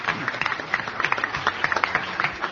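An audience applauds steadily, a dense patter of many hands clapping at once without letup, bright and crackly, with a faint low murmur underneath.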